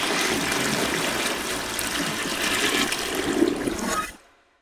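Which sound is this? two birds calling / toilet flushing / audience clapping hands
toilet flushing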